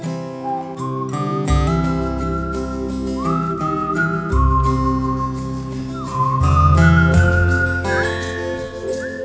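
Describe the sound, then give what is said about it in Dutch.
A man walking back whistles a song softly, a melody in a clear, steady tone, its notes stepping upward over a soft instrumental backing with a low bass line, lasting the whole stretch without any talking. “En dan wandelt hij terug, terwijl hij zacht een liedje fluit.”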